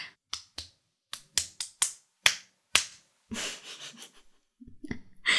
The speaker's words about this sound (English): A few cock slaps will make you focus on the situation right now.